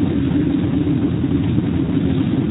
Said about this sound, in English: Okay. That must be her car.